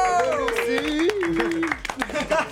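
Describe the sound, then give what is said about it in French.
Scattered clapping from a few people, a loose patter of hand claps mixed under a speaking voice that stays in front throughout. “J'aimerais qu'on l'applaudisse quand même.”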